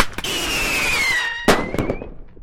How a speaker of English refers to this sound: That would indicate that there's some bird activity in that area, and if they're birds that are sizable enough, we might need to do some pyrotechnics or other harassment activity.